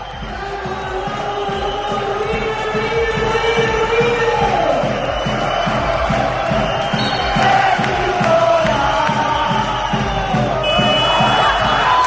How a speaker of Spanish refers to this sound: Ahí sonaba la bocina en el pabellón Juan Vizcarro y la algarabía, la euforia entre la afición del Peñíscola, que repito, va a estar en la próxima Final Four.